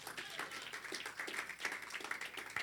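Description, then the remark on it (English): An audience claps for the Lord Jesus during a Bible reading, many hands together in a dense, steady wash, holding fairly even loudness for a few seconds with no voices standing out above it. “Clap for the Lord Jesus.”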